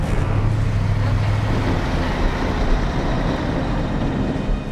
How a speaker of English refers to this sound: The older man climbs out of the passenger seat and his partner drives the pickup away.